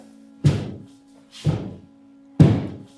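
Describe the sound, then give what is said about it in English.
Three heavy bangs on a wall, spaced about a second apart, each a loud dull thud with a short ringing tail, over a faint steady hum and no voices. “banging, like, at the wall when they bang, but it's hard.”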